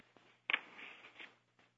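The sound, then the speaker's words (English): A short electronic chime sounds once over a quiet phone line, like the tone played when someone leaves a conference call, fading after about a second. No one speaks. “Who got off the phone?”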